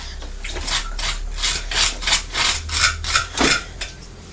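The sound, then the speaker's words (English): A knife spreads butter across crunchy toast in about ten quick, rasping scrapes, each a bright gritty stroke in a steady back-and-forth rhythm over a low hum, with no talking. “This toast is very crunchy, isn't it? Can you hear it when you... The butter's going on.”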